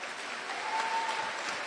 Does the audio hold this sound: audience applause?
yes